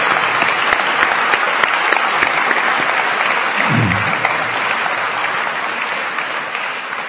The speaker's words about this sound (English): And I think we should thank all of these different people with a big applause.